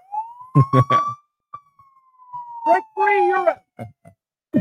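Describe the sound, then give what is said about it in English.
A police siren wails in one long, slowly gliding tone, fairly loud, while bursts of speech cut in over it and briefly fade out. “I'll give myself the siren.”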